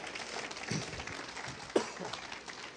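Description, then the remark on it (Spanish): A crowd applauds the Lord, clapping together in a steady, dense, soft patter, with one sharper clap standing out partway through and no one speaking. “Pero si va a aplaudir, apláudale fuerte al Señor.”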